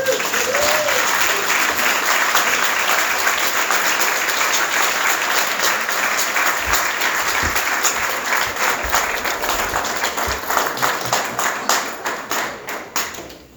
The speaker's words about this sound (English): So let's give him another round of applause.